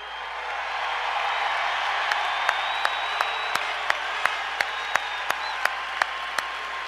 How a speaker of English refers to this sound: I want you to applaud every person that ever wore the blue note, and I want you to applaud yourself, because there may be equals, but there are no better hockey fans in the world.